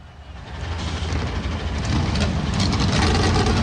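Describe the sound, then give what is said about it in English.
Several NASCAR Cup Series stock car engines fire up on pit lane at the Xfinity 500 after the command to start engines, quickly swelling into a dense, continuous roar with a deep rumbling idle that stays loud throughout. “The NASCAR Cup Series machines come to life on the pit lane.”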